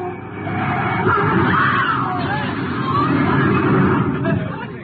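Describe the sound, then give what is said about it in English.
A dense crowd pours out of a side street, murmuring and chattering in a continuous, fairly loud babble, with a low engine rumble running steadily underneath. “Crowd coming out of that side street.”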